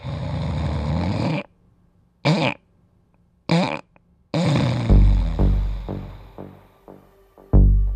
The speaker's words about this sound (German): Das ist der Schnarcher, der sich selber behandelt, aber er sollte zum Arzt gehen.